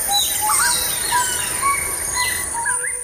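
A dense chorus of birdsong with many overlapping chirps, whistles and short trills, plus a steady high-pitched buzz throughout, fairly loud and continuous with no voices; sounds of about forty bird species from Colombia, blended into a special version of the Colombian national anthem.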